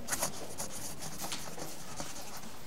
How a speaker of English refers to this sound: Can I try this pen, please? Sure. Here's some paper.